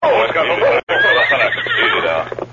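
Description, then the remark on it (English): A horse whinnies loudly in a long, wavering call, briefly cut off and then resuming, over a steady low hum, as riders rein in their horses on a trail. “Finally, they reined in their horses.”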